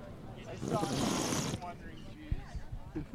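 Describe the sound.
A loud, airy slurp of a drink lasting about a second, hissy and sucking, followed by softer murmuring voices and small clicks.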